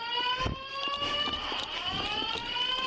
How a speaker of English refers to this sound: Fire alarm going off, moving up the steps.